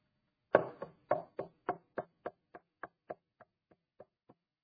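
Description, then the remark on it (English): A steady series of about fourteen sharp knocks on wood, evenly paced, beginning loud and gradually fading softer toward the end, with no voices around them. “He knocks.”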